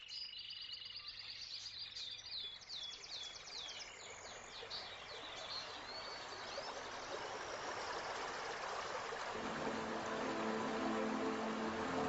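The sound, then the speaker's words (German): A small waterfall, behind which great crested grebes build their nest, splashes steadily, a continuous rushing wash of water, with birds chirping faintly at the start and a low droning hum joining near the end. “Sie bauen ihr Nest an einem sicheren Platz hinter einem kleinen Wasserfall, geschützt von neugierigen Blicken.”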